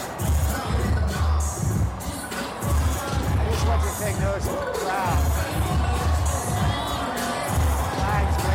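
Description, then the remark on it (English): A large crowd cheers and shouts continuously, a dense roar of many voices with rising whoops and yells, loud throughout, evoking people cheering as Jesus rides into Jerusalem on a donkey. “People cheering, people shouting, when Jesus is riding into Jerusalem on a donkey.”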